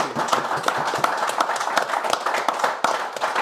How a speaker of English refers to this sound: It is Shrewsbury Town star centre forward, Daniel Odoh. Can we have a round of applause, please, for Daniel?